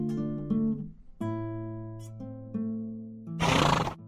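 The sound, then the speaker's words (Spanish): A horse whinnies loudly: one long, wavering call that shifts pitch several times, then ends in a harsh, breathy snort. No one speaks. “Se aproxima al caballo y toma presto la espada en 100 combates ganadora que a su cintura ciñe.”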